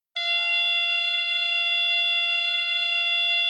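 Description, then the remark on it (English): A beep baseball base, a padded cylinder about 4 feet tall with a speaker inside, activated by a base operator after the batter hits the ball, buzzes with a loud, steady electronic drone, a single sustained harsh tone rich in overtones that starts abruptly and holds unchanged for over three seconds. “As soon as it starts buzzing, they run toward that sound.”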